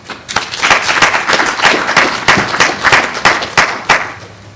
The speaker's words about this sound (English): Thank you all for attending, and thank you again for our speakers. Let's give our speakers one more round of applause.